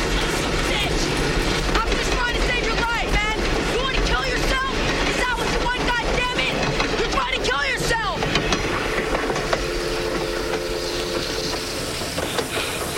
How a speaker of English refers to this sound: the train passes by.